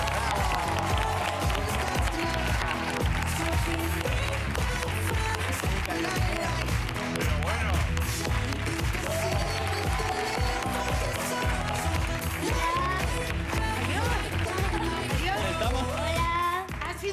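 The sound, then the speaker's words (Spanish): A large audience applauds loudly and steadily for about seventeen seconds to welcome guest actress Luna Fulgencio, a dense wash of clapping with cheering voices and some music mixed in, fading only slightly at the end. “Un aplauso para Luna Fulgencio.”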